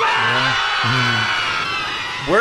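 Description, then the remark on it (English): A crowd of people on a plane screaming and yelling together as the plane slowly and safely descends, a dense, sustained wall of voices, with a few louder individual shrieks rising above the din and swelling again at the end. “So the line, "We're all gonna die," sticks out in my head, but then the people screaming as the plane slowly and safely descends is one of my favorite parts of the episode.”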